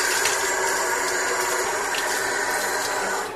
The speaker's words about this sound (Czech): Uzet ćemo komad srebrnog nakita, vezati ga gumicom i uroniti u žumance. I ostavit ćemo to da odstoji preko noći. Sljedećeg jutra uzet ćemo nakit i dobro ga otprati pod vodom.